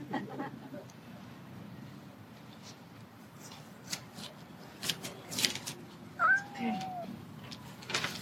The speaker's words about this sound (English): This is a cat, okay?